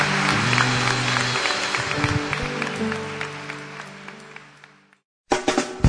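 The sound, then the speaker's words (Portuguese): An audience at a service of the Igreja Batista Gênesis, a Baptist church, applauds for Jesus, breaking into sustained, dense applause with steady hand claps over a low sustained musical tone, fading out before a brief silence, then a short burst of clapping returns. “Vamos dar uma salva de palmas para Jesus, irmãos.”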